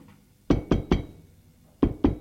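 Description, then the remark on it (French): Five sharp knocks on the door of a drawing room on a cold, dreary day, three quick raps, a short pause, then two more, fairly loud amid quiet. “On a frappé à la porte du salon.”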